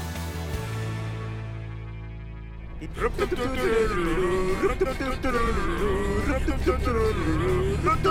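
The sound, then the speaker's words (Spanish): A bus rumbles steadily along a highway, its low engine drone alone for a few seconds before a voice starts speaking over the continuing hum. “Alan y Memo iban en un autobús en plena carretera”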